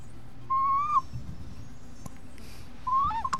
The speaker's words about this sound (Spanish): Se agarra con la mano el salvoconducto aquí, el agua pasa y empuja el viento, entonces una figura zoomorfa de un ave que hace ese sonido parecido a unas aves de Centroamérica, claro, como el quetzal.